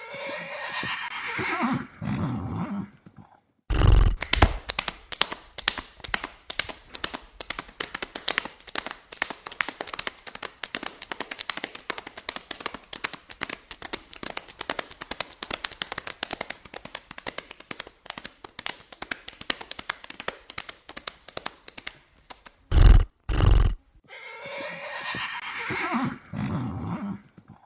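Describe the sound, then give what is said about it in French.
People mimic a galloping horse with a fast, steady clatter of hoof-like taps lasting about twenty seconds, framed by brief breathy, whinny-like vocal sounds at the start and end. “Et vous allez voir qu'ils ont du talent avec cette imitation de galop de cheval.”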